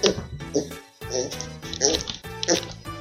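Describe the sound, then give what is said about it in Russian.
A child's voice imitates a pig, producing a quick series of snorting oinks and grunts in rhythmic bursts, fairly loud. “А поросенок как хрюкает?”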